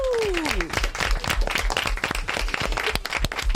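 A group visiting a studio applauds themselves, clapping together in a dense, steady burst with many overlapping sharp hand claps, and a brief falling whistle-like tone at the start.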